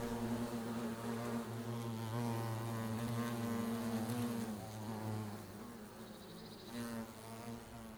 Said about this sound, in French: En fait, c'est pollinisé pas tellement par les abeilles, pas tellement visité par les abeilles, mais il y a plein de petites abeilles sauvages, toutes minuscules qui vont pollinisées.